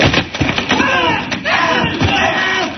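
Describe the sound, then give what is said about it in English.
A few sharp, loud wooden cracks and thuds as the front propeller of a plane is smashed break through steady voices and crowd murmur that continue underneath. “Now I'm going to smash that front propeller.”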